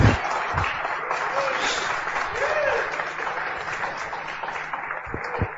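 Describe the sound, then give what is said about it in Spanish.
An audience applauds steadily for several seconds, a dense, even wash of many hands clapping at a fairly strong level, with a few low thumps and brief vocal sounds mixed in. “Ahí puedes aplaudir si quieres”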